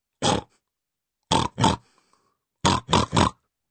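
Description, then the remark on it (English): A human voice mimics pigs, the Three Little Pigs answering a school register call, with short, loud grunting oinks: a single snort, then a pair, then a quick run of three, with brief silences between the groups. “"Three little pigs?"”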